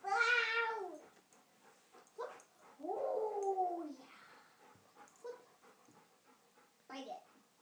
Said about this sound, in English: I'm putting it in your mouth. Can you hear that squeaky sound? That's his teeth rubbing against the rubber.